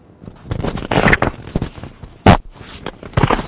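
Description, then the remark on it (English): A run of raspy, sputtering fart noises in uneven bursts, with one sharp, loud blast partway through and a final rumbling stretch, no talking over them. “Stop farting!”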